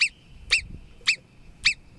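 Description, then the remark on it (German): A marmot gives four sharp, high-pitched alarm whistles, evenly spaced about half a second apart, loud against a quiet background. “Die Murmeli machen es.”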